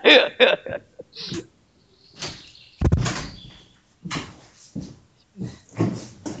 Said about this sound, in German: Ich darf nur hinten die Tür des Zimmers noch schließen. Die ist nämlich noch offen und da haben wir dann draußen immer etwas Betrieb und das stört dann.